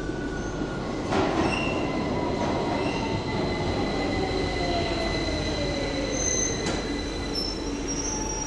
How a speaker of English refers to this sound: Oh God, here comes the train. I might just pause this while the tube train comes, or shall I just let you listen to the tube train? Here is real audio. This is a tube train.